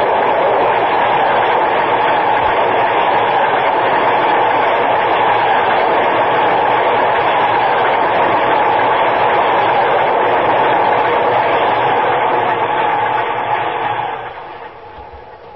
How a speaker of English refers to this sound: Downtown Express. You see him? There he is, across the tracks. Get out of the way. Watch the train.